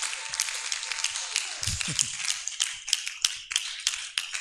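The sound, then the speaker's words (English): A crowd, risen to their feet, claps hands to bless the name of the Lord in a dense, continuous burst of applause with sharp individual claps standing out, and a brief voice rises underneath partway through. “You are not clapping for me.”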